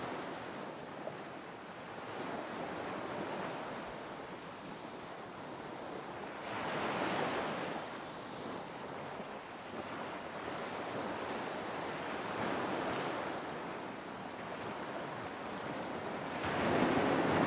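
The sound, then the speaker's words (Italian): Sea waves wash onto the shore in a steady, continuous roar, with broad swells rising and falling every few seconds. No voices, just the surf at moderate loudness with a hint of wind. “Quindi mettetevi comodi, silenziate i cellulari, godetevi il rumore del mare e buon training a tutti.”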